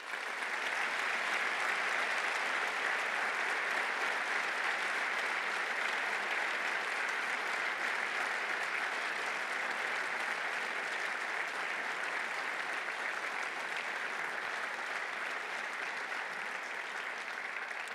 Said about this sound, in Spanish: y creo que recojo las palabras y el sentir del auditorio, son para recordar la labor realizada y, desde luego, para recordar a todas las personas que nos han dejado por la COVID-19, para que pido un aplauso de todo el auditorio.